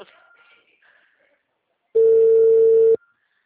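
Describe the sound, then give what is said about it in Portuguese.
A telephone rings with one loud, steady electronic tone lasting about a second, after a quiet stretch with only faint murmuring in the background. “Tá tocando. Agora eu escuto tocar. Olha lá o seu telefone.”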